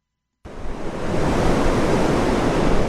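Ocean surf at Higgins Beach in Scarborough, Maine, roars steadily after a brief silence, a dense wash of breaking waves from a hurricane swell that swells slightly and stays loud and continuous, with no voices present.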